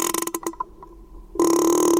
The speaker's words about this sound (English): She made a sound like a creaking door hinge. It's one of the ways whales communicate and socialize.